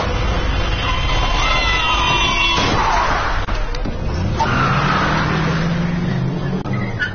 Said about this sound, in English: It was like slow motion, watching the car approach.